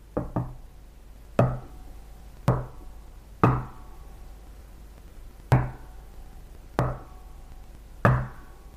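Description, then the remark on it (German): Sharp knocking signals on wood, a quick double rap followed by single loud knocks at irregular intervals, each ringing briefly, like those heard in 1847 in the Fox sisters' house in Hydesville, now Arcadia, New York; no one speaks. “Genau, Klopfzeichen.”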